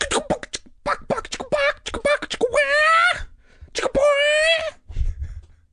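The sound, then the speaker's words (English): A voice imitates a chicken clucking: a quick run of short, choppy clucks, then two long, drawn-out squawks with a wavering, nasal pitch. It's loud and performed alone, followed by a soft breath. “All right, guys, I've been working on my chicken clucking.”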